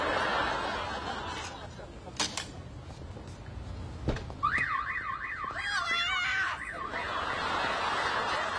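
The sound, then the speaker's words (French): A van's car alarm, set off when Phoebe puts a hanger into the van's door while trying to open it, starts wailing partway through, a loud rapid up-and-down electronic warble lasting a few seconds over a steady wash of background noise, then stops abruptly. “Et en fait, au moment où elle met un cintre ou je sais pas quoi dans la portière, le van sonne.”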